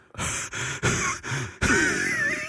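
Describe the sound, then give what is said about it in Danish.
Heavy breathing right up against the microphone: four loud, breathy bursts in quick succession, the last one longer and rougher, with no talking. “Det der med, altså prøv at høre, lad nu være med ånd på hinanden så meget.”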